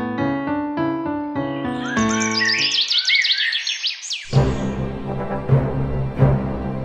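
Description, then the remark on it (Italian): Small birds chirp and tweet off-key in a rapid, jumbled, tuneless burst of high sweeping notes for a couple of seconds, after a run of repeated tonal notes and before a noisy, cluttered stretch. “I tuoi uccellini sono così stonati che non riescono a cantare nemmeno Fra Martino Campanaro?”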